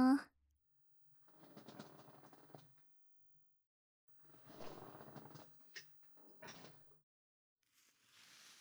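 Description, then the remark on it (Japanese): A chair being moved or adjusted, heard as two stretches of scraping, grinding mechanical noise with a few sharp clicks, separated by short pauses. “じゃあまた椅子の方動くよ”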